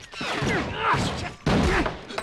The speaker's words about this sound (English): She riddles the hotel room with bullets. A bullet punctures Pudsey's throat and a henchman's blasted against the wall by a volley of gunfire.